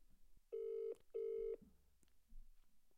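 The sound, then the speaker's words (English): A phone ringback tone gives a double ring, two short steady buzzing bursts one right after the other, moderately loud over faint background noise with no talking. “I'm ringing her.”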